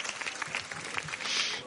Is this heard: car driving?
no